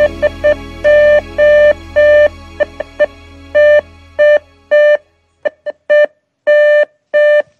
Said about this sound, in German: Das SOS-Zeichen, das ist mit einem Morseapparat gemorset worden